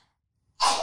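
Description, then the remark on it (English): A single small, sharp sneeze bursts out after a moment of silence, fairly loud, with a breathy hiss that trails off. No one talks. “I usually sneeze. Like, I just made that cute on purpose.”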